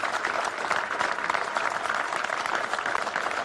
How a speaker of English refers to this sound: 2 days later, millions were clapping for the NHS.